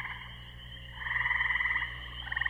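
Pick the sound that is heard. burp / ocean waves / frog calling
frog calling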